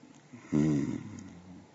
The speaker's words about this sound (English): I could barely hear you, my pet. Oh, all this panting and breathing.